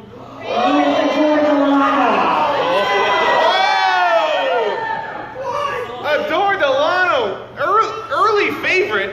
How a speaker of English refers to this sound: People screaming out there.